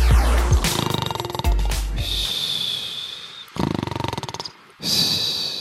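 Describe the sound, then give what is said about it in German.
Someone imitates loud, exaggerated snoring: a few long, rattling, throaty snores with gritty pulsing, separated by brief pauses, with no other talking. “Ich habe mir gerade gedacht, ich hoffe, du schnarchst in echt nicht so, deine arme Freundin.”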